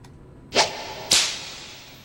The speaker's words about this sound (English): I guess that was a whip. That wasn't even a sexy whip. It sounded more like a synthesizer to me, but it said whip. That wasn't sexy at all.